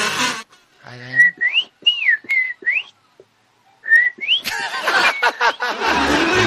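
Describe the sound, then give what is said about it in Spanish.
A caller from Chile's Fifth Region whistles a bird-song imitation in a radio animal-imitation contest. It is a string of bright, sliding, warbling tones in short phrases, then a pause and another brief trill, before a burst of loud, rough noise takes over. “le digo al tiro que nos está cantando el pajarito, ¿qué le pasó ahí?”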